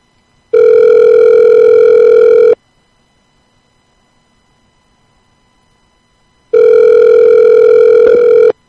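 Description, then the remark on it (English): An outgoing phone call rings with no answer: two steady, buzzy ringback tones, each about two seconds long, separated by a long silent gap. No one speaks. “All right, we have no answer here.”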